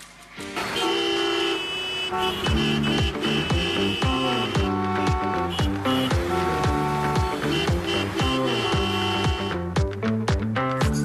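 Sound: car horns honking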